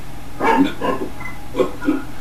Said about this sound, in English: We got a dog barking live on radio.